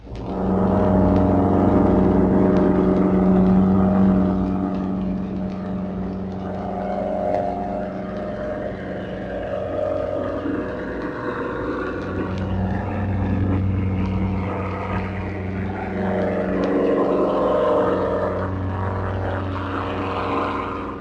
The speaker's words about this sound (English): And here is a German air torpedo at a speed of 38 knots.